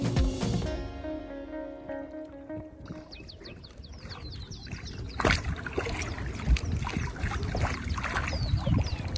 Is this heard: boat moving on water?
yes